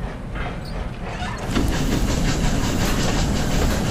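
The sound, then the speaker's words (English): A train rumbles along the rails, its steady low roar swelling louder after a moment, with a faint rhythmic clatter and hiss running through it; no one speaks. “I'll show you the train. More tour, yeah? Yeah. That sounds good. Let's get on the train.”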